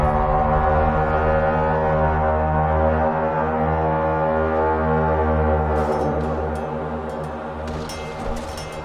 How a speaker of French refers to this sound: Le son d'une corne sortit de la forêt alentour, et juste après, ce fut des cris de rage.